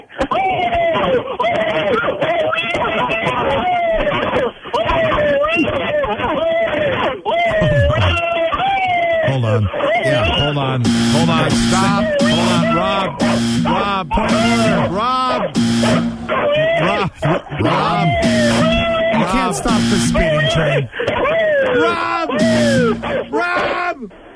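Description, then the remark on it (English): A person lets out repeated high-pitched, dog-like squeals and whoops in quick bursts to get Buster, a beagle, to bark during a 30-second barking challenge, loud over a steady stream of excited talking and shouting from several people. “You are obviously giving that high-pitched squeal to get Buster to bark for us. That's all we could hear.”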